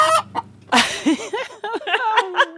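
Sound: chickens clucking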